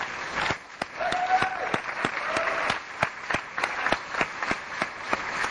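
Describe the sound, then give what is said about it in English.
An audience stands and applauds two speakers steadily, a dense wash of many hands clapping at a fairly loud, even level, with a few sharper individual claps standing out throughout. “I think that what we've heard from those two people is so important, y'all need to stand up and applaud them and support them again.”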